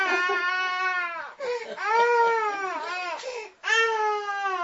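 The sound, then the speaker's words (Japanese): A baby in the audience of a talk wails loudly and continuously in three long, strained bursts with brief gasping breaks between them, dominant with no other sound competing. “いいですよ、 まあね、 いいですよ、岡崎でも泣いてますから。”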